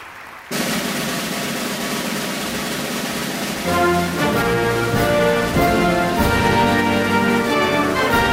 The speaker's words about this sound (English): That is the national anthem, the Star-Spangled Banner of the United States of America.